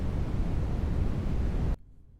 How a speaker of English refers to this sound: Red noise is used in the background of shows and movies that involve space. I guess, you know, if you're flying through space on the Starship Enterprise is what you hear. Red noise.